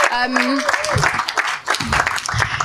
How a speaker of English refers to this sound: Round of applause again for our role players.